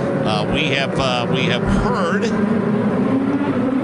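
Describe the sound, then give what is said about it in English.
Race car engines drone steadily as the field works its way around the course on lap 80, with the pace car pulling off at the end of the main straightaway; a rising whine swells past midway. A voice talks over the noise at the start before the continuous roar carries on alone. “I mean, it pulled off, and now the field is working its way around the course with the pace car pulling off at the end of the main straightaway.”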